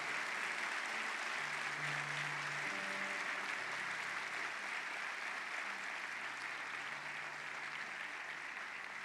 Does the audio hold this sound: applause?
yes